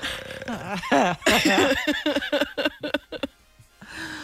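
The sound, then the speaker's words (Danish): A bird call played back from a bird-sound website: a run of loud, harsh, wavering notes that break into a quick series of short repeated calls, then fade to a faint, thin tone. “jeg bliver nødt til at gå ind på min nye yndlingshjemmeside. Fuglestemmer.dk. Fuglestemmer.”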